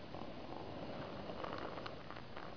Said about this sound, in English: I look at it like water. I go back yonder and I get water out. I pour it in there. Right here we have some. A cup of water.